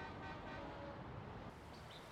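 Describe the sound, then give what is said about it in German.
Dense, continuous traffic noise of cars and buses in a big city, with short car horn toots sounding over the steady roar of passing vehicles. No one speaks. “In der Stadt gab es viele riesige Gebäude, Autos, Busse und viel Lärm, aber keinen Wald.”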